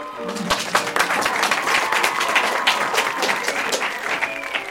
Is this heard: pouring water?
no